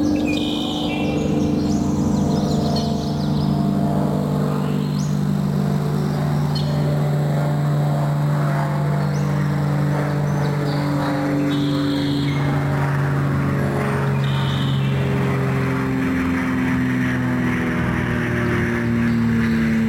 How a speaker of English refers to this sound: The bird song is masked by the drone of an airplane passing overhead.